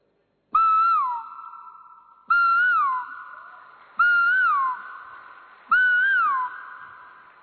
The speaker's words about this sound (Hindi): रात पूरी हुई, दिन हुआ, पशु पंछी जल्दी उठ जाते हैं क्योंकि उनके पास इंटरनेट नहीं है, चिड़िया चहक रही है, कोयल